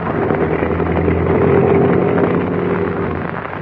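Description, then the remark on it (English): A small National Airways airplane's engine drones steadily as the plane taxis into a hangar in Mexico, a loud, continuous low hum with a rough, buzzing texture that holds evenly throughout, with no one speaking. “Looks like I can taxi right into it.”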